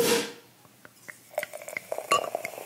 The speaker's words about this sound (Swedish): Så tar jag en klunk efter det.